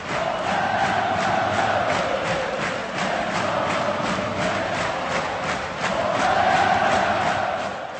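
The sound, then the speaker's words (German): A large crowd of ice hockey fans in Pardubice chants their club's former name, Tesla Pardubice, in unison: a rhythmic, sustained roar of many voices, steady and loud throughout with a brief swell near the end. “Oder aber sie skandieren den Namen, den ihr Verein von 1960 bis 1991 trug, Tesla Pardubice.”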